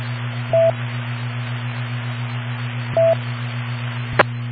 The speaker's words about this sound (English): That last beep seemed to be a lot less than a minute. But the radio's got a heat sensor on it, so it lights up, beeps, and says the word heat on there.